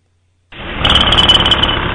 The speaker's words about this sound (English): Shit, that's a jackhammer.